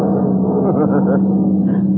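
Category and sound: vehicle, car driving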